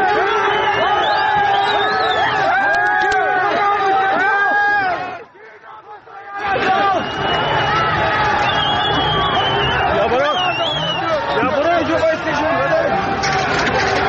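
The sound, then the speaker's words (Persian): A large crowd of protesters in Zarrin Shahr chants slogans against the Islamic Republic in a dense, continuous roar, briefly dropping away before surging back, as security forces use tear gas to disperse them; a couple of sharp, brief gunshots cut through the noise. “تا یه ویدیویی که از اجتماع مردم زرین شهر توی سرکان در شبکه‌های اجتماعی منتشر شده، نیروهای امنیتی برای متفرق کردن مردم از گاز اشک‌آور استفاده کردند و در پس زمینه نیز صدای شلیک چند گلوله شنیده می‌شود.”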